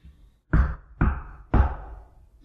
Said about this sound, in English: One of the fine Nazi bikers knocks on my window.